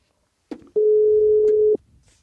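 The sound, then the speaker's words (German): A single steady, mid-pitched telephone ringback tone sounds for about a second on an outgoing call, preceded by a brief click, with no voices over it. “Es klingelt.”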